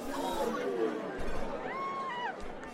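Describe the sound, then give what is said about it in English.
Steady crowd chatter fills Andy Capp's Tavern in Sunnyvale, California, where a crowd plays the arcade game Pong; many overlapping voices murmur at an even level, with a brief electronic tone gliding up, holding, then dropping partway through. “Jerry Lawson walked down El Camino and into Andy Capp's Tavern. A crowd was playing an arcade game, one of the first arcade games anywhere.”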